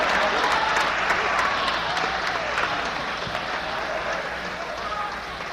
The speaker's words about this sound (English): You know where you can get me to quit? Start clapping your hands like you're listening, because I'm going to keep preaching till your teeth falls out if you don't start listening.